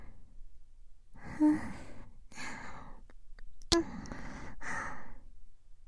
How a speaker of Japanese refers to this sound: 安らかな吐息だな。聞いてると私もドランってしてきそう。